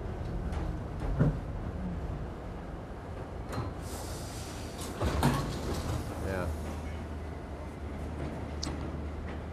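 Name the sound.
riding a subway train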